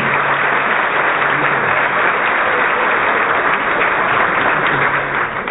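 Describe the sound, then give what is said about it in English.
An audience at a Harvey Milk Diversity Breakfast applauds in memory of Harvey Milk. Many hands clap at once in a dense, loud wash that holds evenly from start to finish, with no voices standing out. “Let's give them all one more big round of applause in memory of Harvey Milk.”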